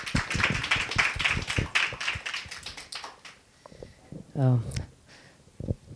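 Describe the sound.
A group of people applauds with dense, rapid clapping that tapers off after about three seconds, followed by quiet and a short voice.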